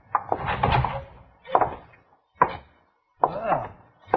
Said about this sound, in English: Now open the door and go right on in.